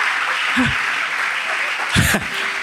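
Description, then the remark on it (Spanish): An audience applauds steadily, a dense, even patter of clapping that fills the whole moment, with a couple of brief voice-like sounds breaking through. “y podría, bueno, si van a aplaudir, aplaudan, porque estamos en confianza.”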